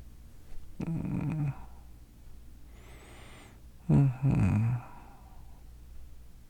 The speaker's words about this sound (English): Oh, no. Do not give me a yawn. That was mean. You couldn't help it. It's because you're so sleepy.